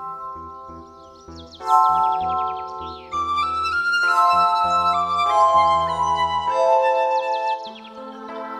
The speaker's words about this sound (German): als sie ein kleines, schneeweißes Vögelchen bemerkten. Die Kinder hörten entzückt seinem Gesang zu